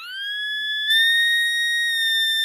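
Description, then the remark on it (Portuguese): Radiation detectors sound a steady, high-pitched electronic tone that holds for over two seconds, stepping slightly louder partway through, as participants in a Eusectra project inspection exercise examine a truck's load for a radiation source. It is clear, with no talking. “E quando os participantes examinam o carregamento do caminhão, os medidores estalam e apitam mais alto.”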